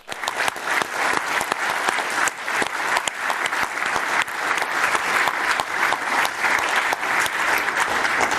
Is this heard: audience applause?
yes